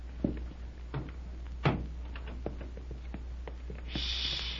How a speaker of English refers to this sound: On tiptoes. Hey, you close the door behind us